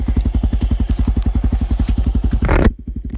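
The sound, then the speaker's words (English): A motorcycle engine thrums with a fast, steady chugging pulse, loud, layered with rushing wind noise that cuts out near the end while the engine keeps idling; recorded while riding on a beautiful day with an iPhone wedged between the rider's helmet and ear. “Thank you for joining me on my motorcycle ride today. Sounds kind of loud, I apologize.”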